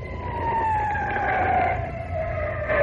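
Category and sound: vehicle, emergency vehicle sirens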